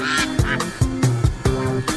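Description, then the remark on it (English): A short musical jingle for the Quack Alert segment, built from repeated loud duck quacks, the honking calls landing in a bouncy rhythm roughly every half second over a steady tonal backing. “I love that Quack Alert song.”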